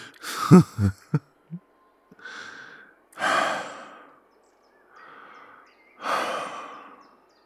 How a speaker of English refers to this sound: You panting and sweating on top of me.